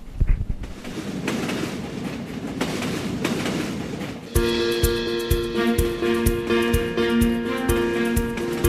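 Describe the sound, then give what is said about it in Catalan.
Model trains rumble and clatter along a layout on which 68 trains run, controlled by four computers: first a dense rolling rush, then a steadier run with rhythmic wheel clicks and a sustained motor whine, continuous. “I corren 68 trens per aquesta maqueta, eh?”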